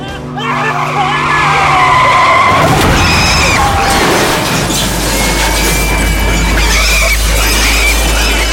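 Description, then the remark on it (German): Tires screech in a long, loud skid as a car brakes hard, the squeal sustained for several seconds over a rumbling engine and road noise. “Und der Schweinetransporter benahm sich wie ein typisches Hindernis. Scheiße, bremst!”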